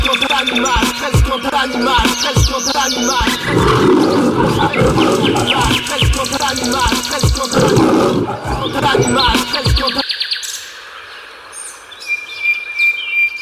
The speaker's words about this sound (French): Attends, je crois qu'il faut mettre un jingle, je l'avais oublié ce détail. Ah, jingle, c'est vrai.